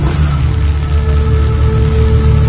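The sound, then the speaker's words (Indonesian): A motorcycle engine, just started and warming up in a quiet motorcycle parking lot of a mall late in the day, idles steadily: a loud, continuous low rumble with a constant pitch and no talking. “Segera aku starter motorku. Aku panaskan motorku sejenak.”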